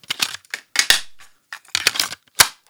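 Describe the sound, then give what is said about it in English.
A head cleaner cassette runs in a tape deck: a few sharp mechanical clunks and rattling clatters in irregular bursts, fairly loud, with brief silences between and no voices. “With all the cassette tape action through these decks, I'm just going to put on a head cleaner cassette.”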